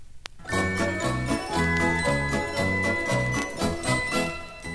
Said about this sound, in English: You will know it is time to turn the page when you hear the Christmas chimes ring like this.